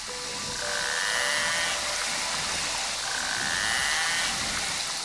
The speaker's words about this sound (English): That underwater cacophony of high-pitched whistles, clicks, and buzzing sounds come from a rather enigmatic but iconic creature. Narwhals.